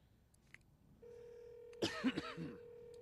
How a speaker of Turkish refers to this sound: Phil telefonunu tuşladı.